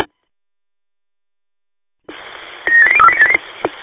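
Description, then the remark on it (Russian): After two seconds of silence, a radio channel opens with a steady hiss, then a radio operator sends his own short, rapid burst of warbling electronic beeps as a sign-off at the end of a contact, followed by a brief click. “Пикаю свой.”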